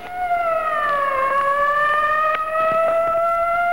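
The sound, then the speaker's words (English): A loud, steady siren played from a tape wails continuously, its tone dipping slightly and then rising again in a slow sweep, with faint background noise and no one speaking. “Do you have a tape of a siren you can play for a couple seconds?”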